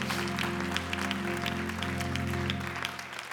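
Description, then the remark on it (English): A church audience claps steadily for God during a morning service, a dense patter of many hands, over a sustained low hum of organ or keyboard chords that holds throughout. “Can we give God a great big hand clap this morning for what he did?”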